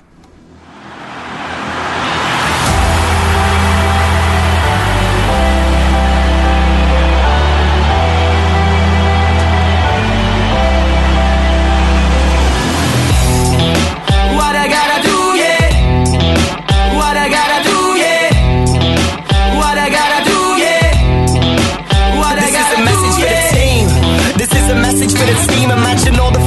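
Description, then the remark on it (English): A World Cup football song plays loud, opening with sustained, droning bass-heavy chords before a punchy rhythmic beat and layered melody kick in halfway through and drive on steadily. “because we have got not one, but two World Cup songs.”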